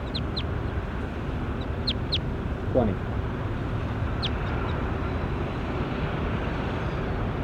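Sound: bird calling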